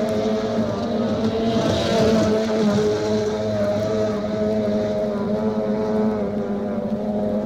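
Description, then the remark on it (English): Racing outboard motorboats at the National Stock Outboard Championships on Prineville Lake, Oregon, in mid-August roar loudly and continuously, their engines producing a steady high-pitched drone that swells briefly as the boats charge past, with no voices. “And there's a new sound to be heard out in Oregon's Central Valleys this year, the exciting charge of America's best racing boat drivers, competing for the National Stock Outboard Championships on Prineville Lake in mid-August.”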